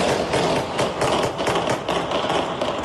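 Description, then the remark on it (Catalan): Gunshots heard at night in central Caracas, Venezuela, near the Miraflores Presidential Palace, crack out in a steady, uneven series of sharp bangs, about three or four per second, over a constant rumbling background noise with no voices. “Aquests són els trets que s'han sentit aquesta nit al centre de Caracas, prop del Palau Presidencial de Miraflores.”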